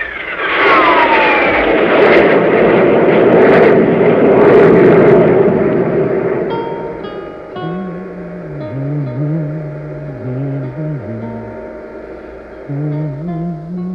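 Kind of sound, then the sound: sound effect, spaceship jet engines roaring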